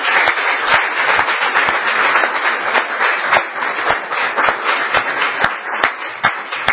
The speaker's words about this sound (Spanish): Según la palabra de Dios, María está viva. Como para darle un aplauso a la madre de Jesús, ¿cierto?